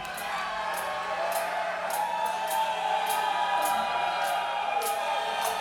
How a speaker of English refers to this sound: And just clap your hands a little bit. You can be on the record. Thank you. A little bit louder. Louder. Louder.